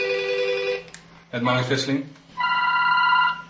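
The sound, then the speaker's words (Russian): The telephone of Dutch activists campaigning against voting computers rings in two loud electronic bursts of steady, multi-tone chiming, separated by a short stretch of what sounds like a voice in between. “Теперь у активистов движения против компьютеров от неожиданной популярности разрывается телефон”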